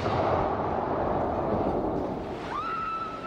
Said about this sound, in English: It was a massive explosion. Sheets of flame flashed across the street and nearby buildings trembled. People feel it even a mile or two north, so as far up as Union Square. People hear the noise. They feel the shudder.